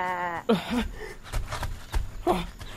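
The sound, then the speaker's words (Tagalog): A sheep eating vegetable crops in a planted field bleats in a few wavering, nasal calls, the first one long and steady, with short throaty bleats following after brief pauses. “Bakit may tupa sa aking mga pananim?”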